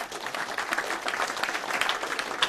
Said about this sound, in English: Give the Lord a clap, please.